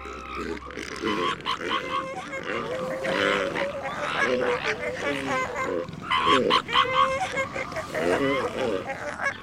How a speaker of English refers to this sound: These distinctive and rather unusual sounds are all coming from a colony of elephant seals. The elephant seal is a walrus-shaped marine mammal up to 8,000 pounds in size.